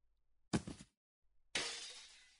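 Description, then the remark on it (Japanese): A smartphone slips from a hand and hits the floor with a short, solid thud, then after a brief pause there's a loud cracking smash as it breaks, its rattling debris trailing off over about a second. “手が滑ってスマホを壊してしまいました。”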